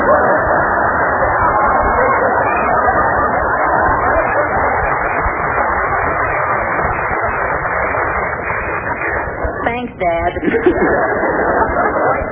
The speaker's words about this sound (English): Oh, look how excited the people are. Listen to the crowd cheering. Hooray for Robert Fulton.